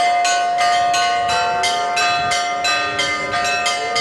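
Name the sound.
church bells ringing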